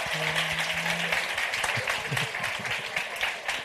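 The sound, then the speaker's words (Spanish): Half-hearted applause, a steady patter of clapping that carries on for a few seconds without building or swelling, with a brief low hum under the start. “Esos aplausos como a medias me parecen no, un putrerío.”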